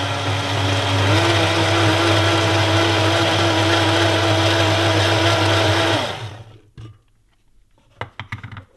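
A kitchen blender making breakfast roars at full speed for about six seconds at 5:20 in the morning, loud and steady with a slight pitch rise, then winds down and stops, followed by a few faint clinks.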